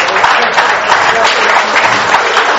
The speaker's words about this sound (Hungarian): Szuper, igen, ez a 43. bál, és van esetleg köztünk olyan, aki már az első bálon, vagy az első bálok közt is itt volt, és vannak azért páram. Hát őket is köszöntjük egy nagy tapsal